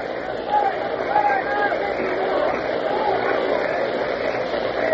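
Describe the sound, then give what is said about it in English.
A large baseball crowd lets out a sustained collective groan as a pitch is called ball three, inside, making the count three and two, a steady roar of many voices rising into drawn-out "oh" sounds. “The crowd said, oh, a couple of O's. Three and two. You may hear them O-ing.”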